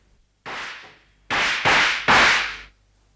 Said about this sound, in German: Ich war empört, wenn Holmes Vergnügen daran hatte, mit geladenen Pistolen in seinem Lehnstuhl zu sitzen und auf die gegenüberliegende Wand zu feuern.